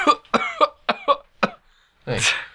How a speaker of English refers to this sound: Or if they just add in sound effects for the delivery, the postman, like them coughing. Like, dude, I'm not actually sick.